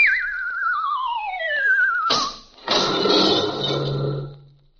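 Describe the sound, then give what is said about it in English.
A long descending whistle glides downward for about two seconds, then a tree being cut down comes crashing onto a house with a sharp loud impact and a heavier, rumbling smash that lingers before fading. “The tree is going to fall on the house.”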